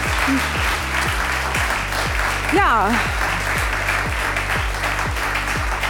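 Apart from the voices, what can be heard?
audience applause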